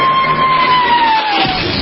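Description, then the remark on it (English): A dense, steady roar of a crowd of 25,000 extras cheering, loud and continuous with no gaps, while a thin high whistle-like tone slowly glides downward through it. “Then the Royal Canadian Air Force will fly overhead towing a 10-ton maraschino cherry, which will be dropped into the whipped cream for the cheering of 25,000 extras.”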